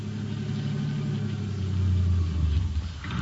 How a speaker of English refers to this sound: All right, now turn off the engine.